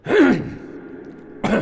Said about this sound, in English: Good idea to cough. Coughing is very relaxing for the throat.